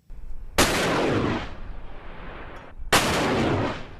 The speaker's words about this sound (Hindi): Rocket launchers की ये आवाज़ें उत्तरी इराक में सीरिया की सीमा से लगी सिंजार पहाड़ियों में गूंज रही हैं, जहां कुर्द सेनाओं ने सिंजार कस्बे को इस्लामिक स्टेट के कब्जे से छुड़ाने के लिए ऑपरेशन फ्री सिंजार छेड़ा हुआ है।